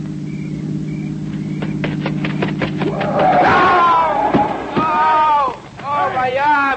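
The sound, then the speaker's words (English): A car approaches with a steady, low engine drone that hums for a few seconds with faint clicks over it, then a sudden rough burst of noise as voices break in and talk excitedly. “Listen. It's a car. It's got to be the one I think it is.”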